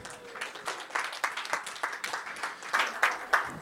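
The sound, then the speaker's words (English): Audience applause: a steady patter of many hands clapping at a moderate level, with a loose, continuous rhythm and no voices rising above it. “So big round of applause for everyone.”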